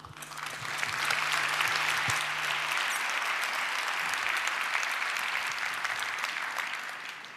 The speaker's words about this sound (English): Give a big applause for Marluš.